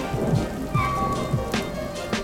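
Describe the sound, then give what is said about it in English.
Steady rain falls in a continuous wash of hiss, with occasional heavier drops and a low rumble underneath, moderately loud, with no voices. “my favorite sound is the rain.”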